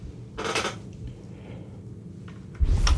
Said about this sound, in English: Let's cross our collective fingers, listen to the creaky chair.